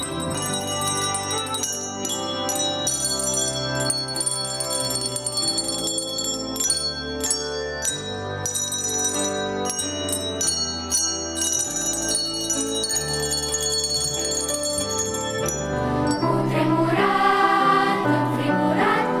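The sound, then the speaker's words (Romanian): A handbell ensemble plays a bright, ringing melody, with many bell tones struck in rhythmic succession and sustained chords layered beneath, steady and fairly loud throughout. “Programul a inclus și momente speciale, susținute de …”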